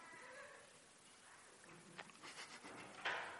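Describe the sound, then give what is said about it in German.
A door is pushed shut, a few soft bumps and shuffles leading into a single faint latching click near the end, heard alone without talk. “Können wir die Tür vielleicht zumachen? Das wäre super.”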